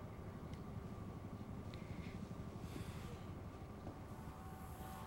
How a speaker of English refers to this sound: Now in the train car.